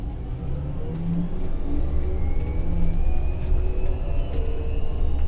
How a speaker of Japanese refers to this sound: 本日も都営バスをご利用いただき、ありがとうございます。このバスは、小島経由、西葛西駅前行きでございます。